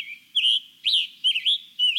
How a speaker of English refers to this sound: Songbirds, like the scarlet tanager and hooded warbler we've been hearing, birds that migrate long distances need to complete this process on a tight schedule.